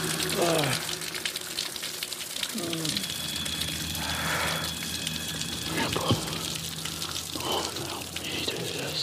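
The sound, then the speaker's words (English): A cold waterfall roars with a steady, hissing rush of falling water, while a man sitting under it makes brief sounds and shouts over the constant spray throughout. “He's sitting under a waterfall in the cold.”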